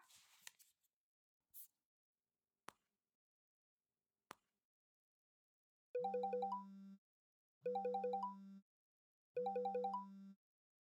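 phone call ringing tone

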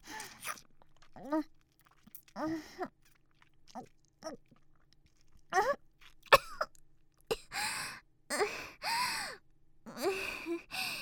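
coughing

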